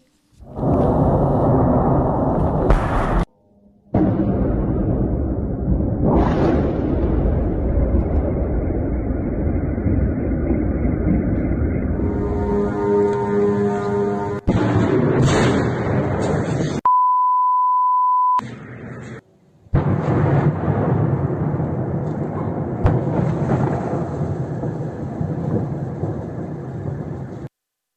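A loud, continuous droning roar of Iranian Shahed kamikaze drones attacking Kyiv, Ukraine, at night, with booms over the city, broken by abrupt cuts, with a short steady electronic beep partway through and no talking.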